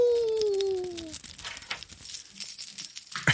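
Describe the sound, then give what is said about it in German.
A metal chain rattles and clinks in irregular bursts, fairly quiet. A falling, whining tone fades out during the first second. “Die Kette rasselt.”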